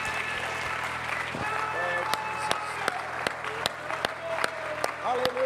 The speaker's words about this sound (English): Give Jesus one more good hand clap of praise before you're seated.